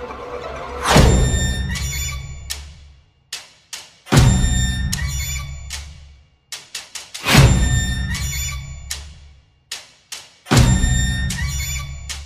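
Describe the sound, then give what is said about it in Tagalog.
Loud, heavy knocks on a bedroom door at 6:00 in the morning land about every three seconds, four booming blows in all, each with a ringing decay and a few lighter taps in between. No one speaks. “Nagising si Rachel sa malalakas at sunod-sunod na katok sa pinto ng kanyang kwarto.”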